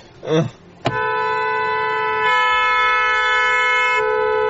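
A car horn blares in one long, loud, continuous honk that holds steady for several seconds after a brief vocal sound at the start, as the driver presses the horn instead of driving to the hospital.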